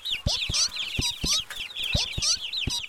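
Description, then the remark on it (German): High, thin peeping from a newly hatched chick repeats rapidly and continuously, mixed with soft clucking and sharp little taps, fairly loud with no talking. “Als sie das Ei öffnen wollten, hörten sie ein Piepen.”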